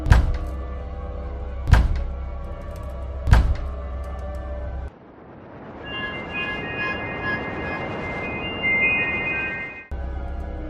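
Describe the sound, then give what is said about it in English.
Three heavy, booming bangs of large, powerful hands on a door land about a second and a half apart over a low, steady rumble, followed by a stretch of dense hissing noise with faint high tones. “Large, powerful hands banged on my door.”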